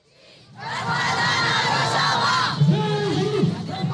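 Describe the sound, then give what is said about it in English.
A large, mostly Kurdish crowd in a Syrian village shouts and chants together loudly, protesting U.S. troops pulling out from positions along the border with Turkey, a dense wall of many voices swelling in after a quiet start, with a few individual voices rising above the din. “In a Syrian village Tuesday, a mostly Kurdish crowd protested against the U.S. troops pulling out from positions along the border with Turkey.”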